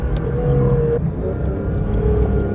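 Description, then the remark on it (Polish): A 510-horsepower, naturally aspirated, high-revving sports car engine roars steadily at high revs while lapping a race track, with pitch rising and shifting as it accelerates, a loud, continuous drone with no voices. “510 koni z wolnossącego silnika wysokoobrotowego, który naprawdę kocha wysokie obroty i on najlepiej czuje się na torze.”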